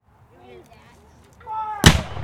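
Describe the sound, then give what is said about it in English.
A single booming Civil War cannon fires a blank, with no real ammunition, in a demonstration by the Kennesaw Mountain Volunteer Cannon Crew: a sudden loud blast that rumbles on, preceded by a couple of seconds of faint voices in the background. “That cannon can shoot 3.5 miles, but we don't put any real ammo in it because we don't want to hit Marietta.”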